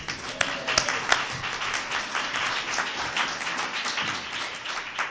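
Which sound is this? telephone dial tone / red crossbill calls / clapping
clapping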